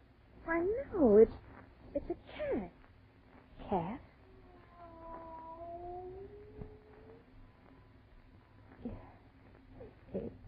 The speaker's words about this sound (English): It is a cat. Not a cat. Look at the size of it. Tiger.